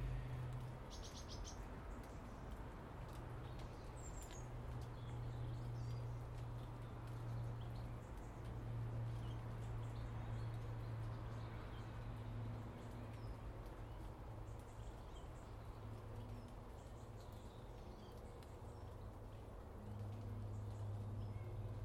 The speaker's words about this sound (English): Very calm this morning. Lots of bird song.